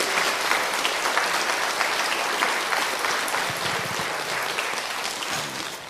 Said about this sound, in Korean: 다 같이 우리 박수로 하나님께 영광 올리겠습니다.